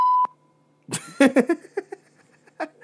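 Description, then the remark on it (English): A single short, loud censor bleep from a button sounds at the start, a flat electronic tone. After a brief silence, a burst of squeaky, chattering noises follows. “We got a censor button, just in case.”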